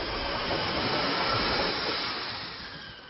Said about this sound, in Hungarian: Befutott az első vonat is az új vasúti múzeum megállóhelyre. Jövő év elejétől az esztergomi vonalon menetrend szerinti vonatokkal is megközelíthető lesz a vasúttörténeti park.